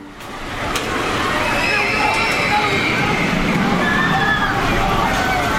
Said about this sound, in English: Oaks Amusement Park, established 1905. We're right in the center of the midway. Check it out. Here comes the band.